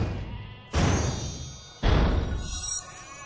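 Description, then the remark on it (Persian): Two loud bleats from a woolly sheep, each a sudden wavering cry lasting about a second, separated by a short pause, with a faint thinner call trailing at the end. “نگران تعداد گوسفندا نباش، چون من یه گوسفند پشمالو دیدم.”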